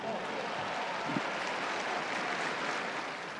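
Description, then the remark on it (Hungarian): A crowd applauds firefighters in a steady, dense wash of clapping that holds at an even, fairly loud level for the whole few seconds, with no voices standing out. “Taps a tűzoltóknak!”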